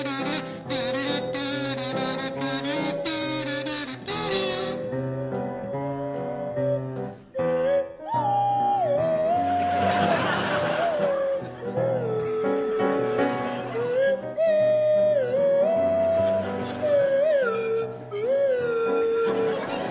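A buzzy kazoo and a sliding swanee whistle play a tune together, the whistle's pitch swooping up and down over a steady, loud musical backing with no talking.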